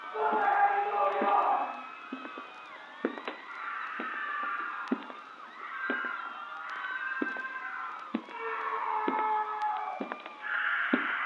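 Several voices scream and wail in overlapping, drawn-out cries, sounding muffled from behind closed doors, with sharp knocks and thuds punctuating them throughout.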